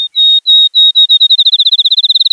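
field sparrow song

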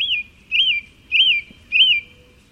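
swainson's thrush song

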